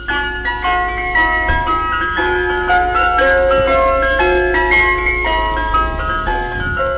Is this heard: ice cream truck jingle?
yes